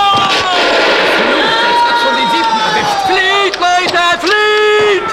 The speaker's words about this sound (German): Es fielen noch ein paar Schüsse, doch dann war der Kampf entschieden